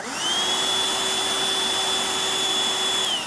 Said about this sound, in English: And also, he has his girlfriend with him, the vacuum cleaner.